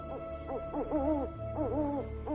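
An owl hoots repeatedly in a series of wavering, rising-and-falling calls, somewhat distant, over a steady low background hum with no voices.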